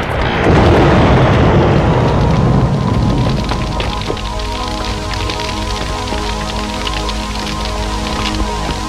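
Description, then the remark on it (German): A hacienda and a barn burn in a loud, roaring blaze that rumbles continuously with dense crackling and popping throughout, a heavy rushing surge at first that settles into steady crackle; no voices. “Die Hacienda und die Scheune standen in hellen Flammen.”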